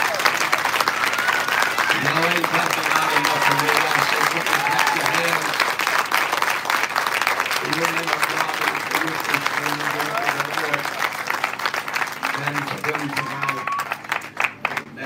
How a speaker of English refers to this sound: Can you clap your hands one more time unto the Lord tonight? And while you're clapping, can you ring this tabernacle underneath this gospel tent for your men of God and for your first lady? Come on, clap your hands to the Lord.